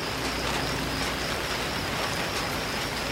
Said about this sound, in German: Später prasseln Regentropfen auf das Zelt. Das hört sich toll an.